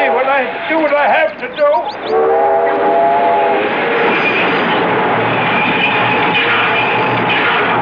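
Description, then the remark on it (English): A freight train rumbles along the rails, a steady clattering roar with a drawn-out horn blast partway through, while voices are heard briefly at the start. “stop the train.”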